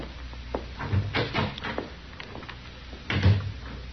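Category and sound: household object, door opening and closing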